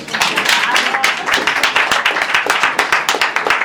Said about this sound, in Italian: Un applauso per questo, perché è una cosa di speranza, c'è sempre qualcuno che ne sa di più di quelle della Silicon Valley. Applauso.